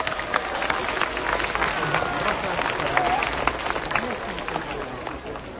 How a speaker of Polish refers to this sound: I brawa dla wszystkich organizatorów.